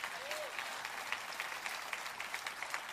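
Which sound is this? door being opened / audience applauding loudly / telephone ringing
audience applauding loudly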